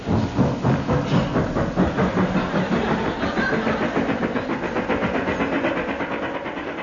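A train sound effect, used comically as the sound of a horse: wheels beating out a fast, regular clickety-clack over a dense, droning roar. Loud throughout, with no voices.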